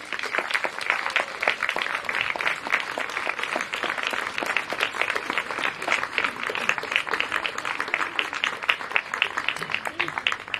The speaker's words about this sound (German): Bitte für alle diese Leute einen Willkommensapplaus.